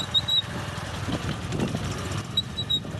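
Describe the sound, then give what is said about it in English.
A motorcycle carrying instruments, a laptop and recording equipment on country roads to remote areas runs with a steady, low engine rumble at moderate volume, accompanied by a few faint high chirps or squeaks. No one speaks. “The country roads are inaccessible by car, so he travels by motorcycle, balancing instruments, a laptop, and recording equipment.”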